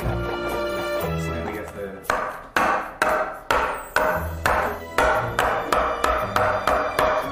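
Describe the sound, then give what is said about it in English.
A milk bag is banged against a counter about a dozen times in a steady rhythm, roughly two sharp, loud thumps per second, over a faint humming tone in the background. “Hold it up in here, like bang on the counter a few times.”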